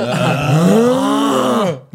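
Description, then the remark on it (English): A voice imitates a father's loud snore: one long, throaty, groaning rumble held for nearly two seconds, then cut off, with a brief breathy catch at the end. “Your dad's snoring.”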